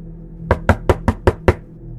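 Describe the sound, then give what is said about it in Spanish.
Six hard, rapid knocks on a door in an even, urgent rhythm, loud, followed by a low steady background hum with no voices. “El golpeteo volvió ahora de forma violenta, como si aquello quisiera tirar la puerta o fuera a hacerlo en cualquier momento.”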